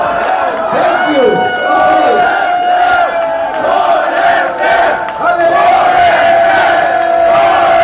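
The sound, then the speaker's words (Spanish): A dense crowd of fans at the premiere party for the fourth Torrente film, about 14 to 15 years ago, shouts and chants together to welcome Santiago Segura, loud and sustained, with rising cheers and sung, tonal calls surging over a constant roar of voices. “Estos eran los gritos con que fue recibido Segura, Santiago Segura, hace 14 años.”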